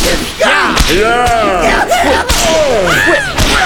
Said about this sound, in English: Whip crack!